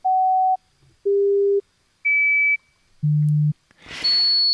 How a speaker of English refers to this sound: So they did a new experiment where the researchers gave the spiders a hearing test. They played sequences of tones, kind of like this.